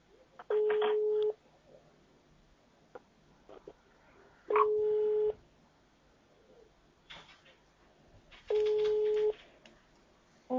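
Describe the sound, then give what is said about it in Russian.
A telephone line tone sounds as the handset is picked up with a button, as if answering a call, while a faulty line is checked: three steady, mid-pitched bursts, each just under a second long and spaced about four seconds apart, over faint background noise with no talking. “А попробуйте сейчас кнопкой снять трубку, как будто вам звонят.”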